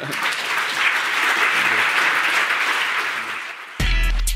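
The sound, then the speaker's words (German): Sustained, dense, enthusiastic applause from a large lecture audience after a lecture by Hartmut Rosa, steady and loud for nearly four seconds, then abruptly cut off as a low musical tone begins. “Dem langen, begeisterten Applaus nachzuurteilen, stimmt das Publikum Hartmut Rosas Schlusssatz zu.”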